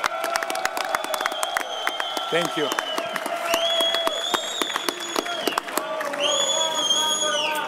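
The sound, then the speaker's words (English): A large arena crowd applauds and cheers steadily throughout for the new undisputed light heavyweight champion of the world, Dmitry Bivol, with dense clapping and sustained shouting voices. A man speaks briefly over the loud ovation. “And for the people here, I think a huge round of applause for the new undisputed light heavyweight champion of the world, Dmitry Bivol.”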